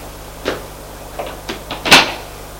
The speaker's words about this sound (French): Une fois en bas, au lieu de sortir par la porte, l'homme qui a le coffre va ouvrir la porte qui est sous les escaliers qui donne à la cave.